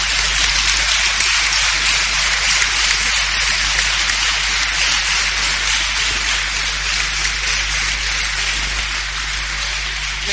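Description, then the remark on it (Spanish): A crowd at the Carnaval de La Roda 2022 applauds loudly and steadily, a dense wash of clapping that holds at an even level for about ten seconds, with no voices standing out. “Por ello, demos un fuerte aplauso a este Carnaval de La Roda 2022, que tanto tiempo llevábamos esperándolo.”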